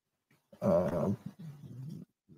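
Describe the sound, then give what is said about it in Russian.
Two cats growl and yowl at each other: a loud, strained yowl followed after a brief pause by a lower, steady rumbling growl, with no talking. “Тут кот-бегемот опять-таки с котярой общается по поводу ГЛОКа.”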